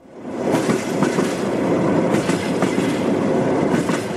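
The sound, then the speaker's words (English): Train wheels of a Ukrainian long-distance sleeper train clatter steadily over rail joints, a rhythmic clickety-clack riding on a loud, constant rumble of rolling carriages. No one speaks. “Now the state railway company has introduced women-only compartments on several of its long-distance sleeper trains, in a move seeking to protect women against assault and make them feel more comfortable at a time of war.”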